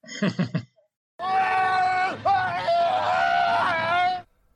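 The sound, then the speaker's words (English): A brief, choppy vocal outburst, then a man lets out a loud, shrill, blood-curdling scream held for about three seconds, its pitch wavering and cracking before it cuts off abruptly; the scream of Harrison Chase being fed to the shredder in Doctor Who. “watching Harrison Chase being fed to the shredder and that blood-curdling, chilling scream?”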